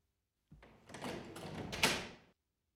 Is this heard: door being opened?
yes